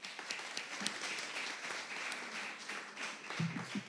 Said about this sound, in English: So we're really privileged to have him with us. So please join me in welcoming him with a big round of applause.